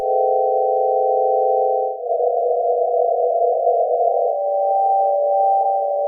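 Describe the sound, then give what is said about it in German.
Steady, buzzy electronic drones, atomic emission spectra of helium, oxygen and calcium converted into tones by a chemist from the photons' wavelengths, play alone in three successive sections, each a sustained cluster of pitches at an even, fairly loud level. “dann lassen sie ein Photon frei und die Wellenlänge dieses Photons, das ist das, was wir sehen können und was jetzt dieser Chemiker in Töne umgewandelt hat.”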